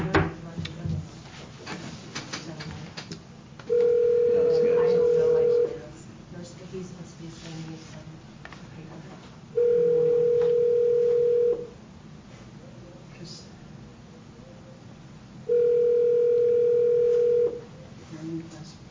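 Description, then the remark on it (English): A telephone call being placed back to Canica: the line sounds three steady, mid-pitched tones, each about two seconds long, separated by roughly four-second gaps, over a low background hum and faint clatter. “Okay, well, let me try to call him back at Canica again.”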